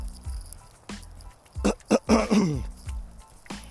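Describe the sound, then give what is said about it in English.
A person clears their throat, a few rough, raspy bursts clustered together, the last one drawn out and gravelly, over a faint low hum. “See, I gotta clear my throat because I'm getting sick out here, but y'all know what it is.”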